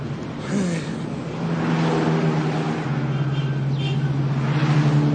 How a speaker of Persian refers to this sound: مجید توی ماشینه، داییشم کنارشه، دارن از توی خیابانهای شیراز رد میشن